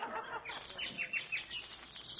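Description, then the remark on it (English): Bird-like chirping comes in a quick string of bright, repeated notes, moderately loud, with no talking over it. It comes from an alarm clock. “Gee, listen to the Boyd singing. Oh, Rudy, it's a bird.”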